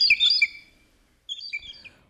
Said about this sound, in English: Those blue jays are loud.